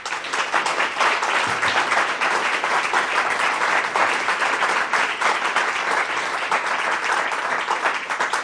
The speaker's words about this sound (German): Zuerst einmal einen warmen Applaus.